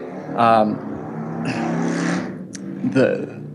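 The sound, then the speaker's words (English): A motorcycle goes by, its engine droning and swelling over a few seconds with a couple of sharper revving surges, fairly loud. “Did you hear the motorcycle?”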